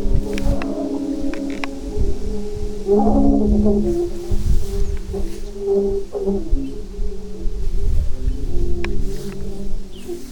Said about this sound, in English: We're getting a fairly decent chorus in here now. There are fun things to do when it's windy. You can fly a kite, you can sail a boat. You can listen to Aeolian organ pipes sounding in a field of tall prairie grass.